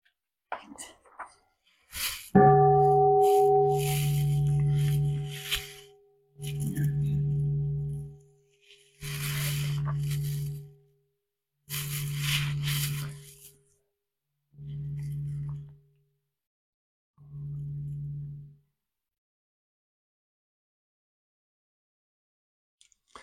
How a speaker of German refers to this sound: Vielleicht hören wir jetzt meine Glocke.